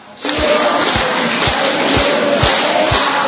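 An audience at a religious talk claps loudly and steadily, a dense wash of applause with a heavy, regular beat landing about twice a second, as if hands clap in time. No one speaks over it.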